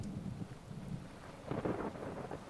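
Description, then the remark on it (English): A low, rolling rumble of thunder swells midway through a stormy wash of rain-like noise during a thunderstorm, steady with no voices. “So, you were once afraid too, but then you realized that the thunder couldn't hurt you?”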